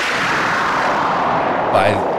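explosion sound effect

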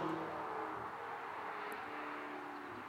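passing road traffic

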